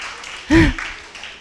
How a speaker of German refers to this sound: Ja, einfach klatschen.